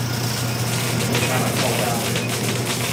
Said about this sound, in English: They light a small bit of mulch below the plant. You can hear the crackling now of the plant.